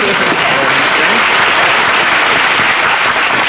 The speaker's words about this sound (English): Mary, we should have applause for Mary.